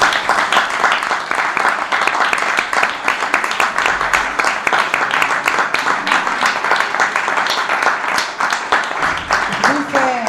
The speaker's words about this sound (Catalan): Per tant, jo us demano que us feu un aplaudiment a vosaltres mateixos